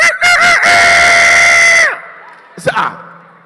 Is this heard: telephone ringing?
no